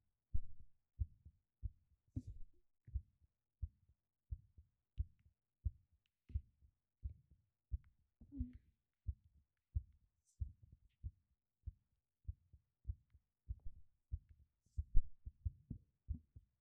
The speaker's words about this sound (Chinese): 你的心跳声好清纯，扑通扑通的，每一下心跳都告诉我，我们是在一起的。